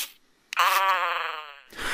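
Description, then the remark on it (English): A Furby, an electronic talking toy first released in 1998, utters a single drawn-out, wavering, moan-like sound lasting about a second, ending in a brief rough, noisy burst; there is no other talk. “Remember Furby? Christmas craze from 1998. Talked, winked, purred.”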